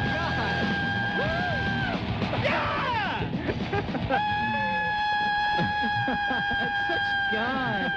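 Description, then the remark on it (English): A man screams in loud, sustained, high-pitched bursts, his voice sliding up and down over a dense, chaotic wash of noise that continues throughout. “That's me screaming, but I was...”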